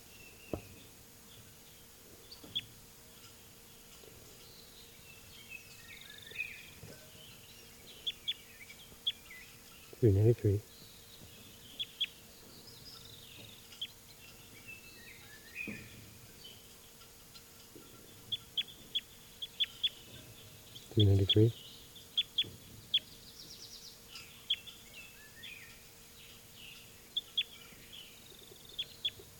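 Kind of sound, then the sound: bird, bird calls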